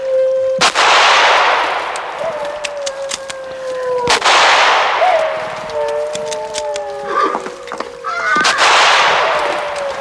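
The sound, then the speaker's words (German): Three loud, sharp gunshots ring out a few seconds apart, each followed by a long echoing rumble, while wavering, howl-like tones drift underneath; the shots are fired at a pack of attacking wolves. “Schießen Sie, Thalcave, so schießen Sie doch!”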